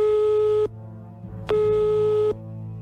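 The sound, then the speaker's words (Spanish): A telephone ringback tone sounds twice as a call is placed to someone, steady electronic buzzing bursts of under a second each separated by a short pause, clear and fairly loud with a faint hum beneath. “Y nosotros sí que le llamamos al teléfono.”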